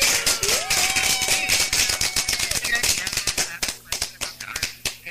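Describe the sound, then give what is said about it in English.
A burst of applause sound effect played on a radio show for a caller: dense, rapid, crackling clapping from many hands with a rising whistle-like cheer early on, then the claps thin out into sparser, separate slaps toward the end. “We got to give you a clap, okay?”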